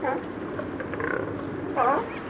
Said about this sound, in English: These noisy mammals are California sea lions. Producer Mark Seth Lender made this recording at a floating pier outside Elkhorn Slough in Monterey Bay.